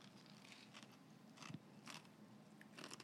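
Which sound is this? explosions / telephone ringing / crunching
crunching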